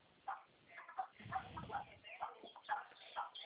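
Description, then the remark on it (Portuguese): Several hungry chickens that need food cluck in short, repeated bursts, a steady run of clucks over soft low background rumble, with no one speaking. “Tá vendo? As galinhas precisando de comida e eu tenho que trancar delas.”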